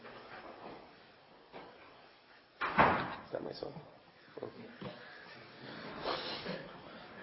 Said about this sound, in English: Could you shut that door, please?